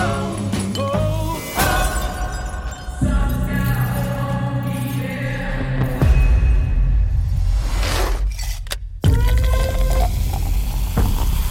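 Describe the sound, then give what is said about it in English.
A glass drops into ice with a sharp, shattering clink after a rising whoosh in a movie trailer, set against sustained, swelling tonal music with no talking. “Because like it started with the glass falling into the ice, which is in the trailer.”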